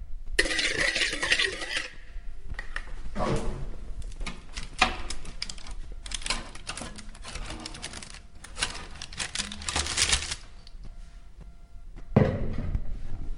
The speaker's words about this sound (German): Mischen und lagerweise mit dem Eischnee auf die gerührte Masse geben. Mit dem Gummischaber vorsichtig drunter ziehen und 1 cm dick aufs vorbereitete Blech streichen.